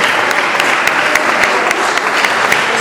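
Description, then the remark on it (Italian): An audience at a university event in Modena claps steadily for the guests present, dense overlapping handclaps at a fairly loud, even level with no talking over them. “Farei un applauso agli ospiti presenti.”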